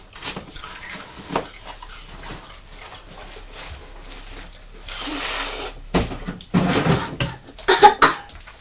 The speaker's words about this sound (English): Oh dear. You've had a poorly cough.